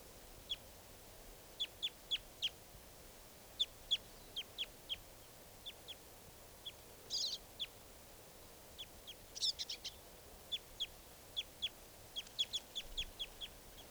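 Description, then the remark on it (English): A lone male bird gives a steady series of short, high chirps, soon joined by other birds adding brief, harsher bursts and overlapping calls. Faint throughout, with no voices. “lone male. And he's joined by some other birds now.”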